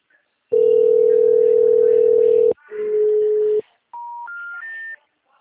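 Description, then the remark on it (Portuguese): Busy telephone line tones: a steady low hum for two seconds, a shorter, buzzier tone, then three short beeps stepping upward in pitch, loud and clear with no talking. “O telefone encontra-se ocupado. Por favor, tente mais tarde.”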